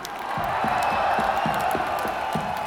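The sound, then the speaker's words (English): A large concert crowd in Moscow cheers and whoops in a loud, continuous roar, with scattered clapping and shouts rising above the steady wash of voices. “You guys have been a great audience. Thank you very much.”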